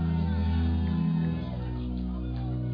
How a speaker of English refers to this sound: The God that gave you the victories in 2019, you now want to shout so the heavens will hear.